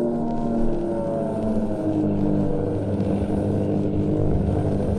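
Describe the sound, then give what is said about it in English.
A loud airplane engine roars steadily throughout as the aircraft, flying in fog, goes into a screeching dive, its droning, buzzing pitch bending slightly early on and then holding. No one speaks. “and then the ship goes into a screeching dive.”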